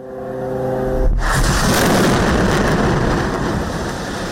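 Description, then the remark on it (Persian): A humming engine drone gives way to a sudden loud blast, followed by a sustained heavy roar and rumble of Israeli fighter jets passing overhead and several explosions at night in the Gaza Strip, with no talking. “غرش جت‌های جنگی اسرائیل و سپس صدای چندین انفجار.”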